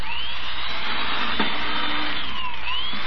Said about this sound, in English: Look at it drill holes through this board. Oh, it drills too fast.